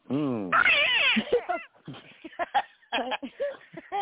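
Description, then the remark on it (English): A person mimics a cat with a drawn-out, wavering meow that rises and falls loudly for over a second, then breaks into choppy vocal sounds and talk. “The unshaved Peter and the large Yule kitty.”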